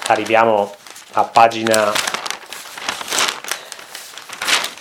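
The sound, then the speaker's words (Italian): A person speaks briefly, then newspaper pages are leafed through to the Agordino section on page 24, after the Cadore pages, a loud, continuous rustling and crinkling of paper that lasts for several seconds. “Ci arriviamo, dobbiamo sfogliare l'Agordino, è dopo il Cadore e quindi è a pagina 24.”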